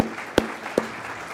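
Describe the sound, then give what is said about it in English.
An audience applauds people from the Tanner Clinic in a steady, dense patter of clapping, with two sharper, louder claps standing out from the wash. No one speaks. “We'd love to have you stand and get a round of applause.”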